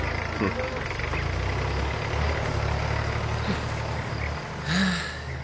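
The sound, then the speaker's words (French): A tractor engine runs steadily throughout, a continuous low diesel rumble with a rough, chugging texture, constant in loudness, with a brief swell near the end. “La compréhension d'un mot si international est naturellement simplifiée lorsqu'on entend un bruit qui accompagne ce mot, comme pour le tracteur, par exemple.”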